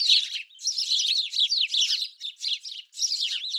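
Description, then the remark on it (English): A house sparrow chirps in quick, bright bursts, a busy run of short tweets with brief gaps, steady at moderate loudness, with no voices. “House sparrows now live in cities on nearly every continent, where they get hate for being urban pests.”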